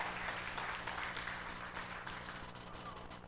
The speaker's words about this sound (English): Come on, somebody give the Lord a hand clap if you want to be a part of this great vision.